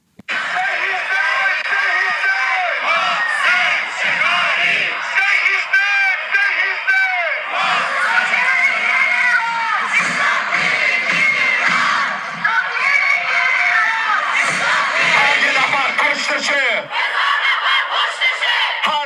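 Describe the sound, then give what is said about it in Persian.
A large outdoor crowd chants and shouts together in loud, rhythmic unison, voices overlapping continuously: protesters in the streets of Sydney, Australia, calling out the name of Mohsen Shekari and carrying his photo, against executions in Iran. “مردم نام محسن شکاری را در خیابان‌های سیدنی فریاد می‌زدند و عکس او را به همراه داشتند.”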